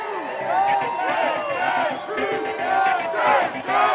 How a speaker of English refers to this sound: Everyone was excited to see who the Texans would pick first. Would it be a wide receiver, an outside linebacker, an offensive lineman, a nose guard? None of those. It was something else. And everyone had a fantastic time cheering on that pick.